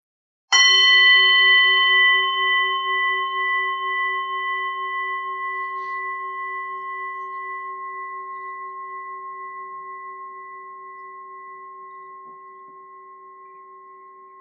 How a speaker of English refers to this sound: So everything is like that bell. It's there and then it fades until it's very, very subtle towards the end. Yeah, lasts actually longer maybe than we thought.